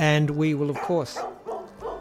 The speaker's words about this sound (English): Oh, perfect. The dogs are barking. The dogs, they can sense that we're wrapping up and they're saying, Dad, can you come out here and play with us or something? I think it's their dinner time.